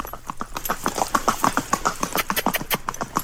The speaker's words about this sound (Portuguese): O tema será o cavalo campeiro, marchador das araucárias. As músicas falam sobre cavalo. O fundo, enquanto nós falamos, é uma marcha do cavalo campeiro.